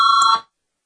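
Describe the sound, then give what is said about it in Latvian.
A parliament voting bell, rung to call a vote on deputy Valēns' sixth proposal, sounds once, a steady electronic ring lasting under half a second with a bright, buzzy pitch, then cuts off into silence. No one speaks. “Lūdzu zvanu, balsosim par sasto deputāta Valēna priekšlikumu.”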